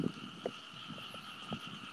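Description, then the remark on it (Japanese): A frog croaks in a handful of short, irregular bursts, set against a steady high droning hum in the night air. “あー、カエルが、カエルゲコゲコで笑った。”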